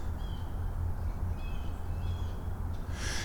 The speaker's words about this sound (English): Now see, hear that over there? That's kind of warning squawks going off over there. But that's 100 meters away, plus.